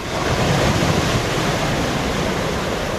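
Steady, fairly loud roar of surf washing onto Saint-François beach in Corsica, a continuous rushing wash of waves with no voices and no clear pauses between breakers.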